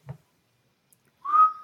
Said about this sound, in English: Some whistling? I knew you were about to whistle